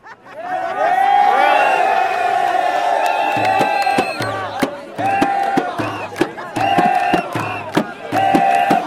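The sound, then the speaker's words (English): A huge crowd in a square in Egypt roars and cheers, a loud sustained swell of many voices that breaks after a few seconds into repeated rhythmic bursts of shouting and chanting, as people jump up and down shouting "he's gone". “Suddenly this massive roar went up over the square and people started jumping up and down saying, he's gone, he's gone.”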